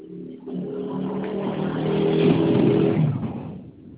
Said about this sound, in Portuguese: Tá, peraí. Deixa essa moto sair daqui.